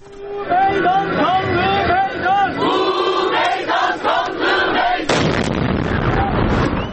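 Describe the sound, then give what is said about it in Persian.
A crowd at a peace demonstration in front of a railway station chants slogans loudly in rhythmic unison for several seconds, then a sudden, powerful bomb blast cuts in, followed by a sustained roar of noise and commotion. “لحظه ای که بمب انفجار شد رو میتونیم با هم بشنویم.”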